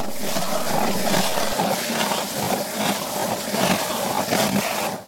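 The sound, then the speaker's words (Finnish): A hand-turned ice auger grinds steadily into the wooden floor of a room, boring a hole, a loud, continuous rasping scrape with a faint rhythmic pulse as the bit turns. No voices are heard. “sinä olet porant reiäsi huoneen lattia.”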